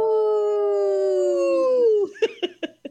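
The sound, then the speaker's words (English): A person imitates a wolf howl: one long, steady, tonal wail that slowly falls in pitch, then breaks into three short yelping barks at the end, loud, on the radio show Native Roots Radio Presents I'm Awake, in a segment supported by Howling for Wolves. “That was a good howl today.”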